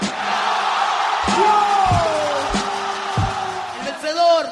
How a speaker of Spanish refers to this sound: Lo sabes, bro, no te lo digo yo. Te lo dice su ovación.